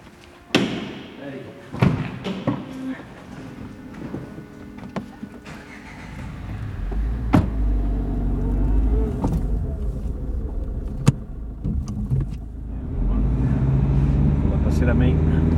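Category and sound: vehicle, car door shutting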